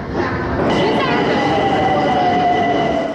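A subway train rumbles steadily through a Tehran metro station, with a dense low roar and a high whining tone gliding downward, under what sounds like faint background chatter.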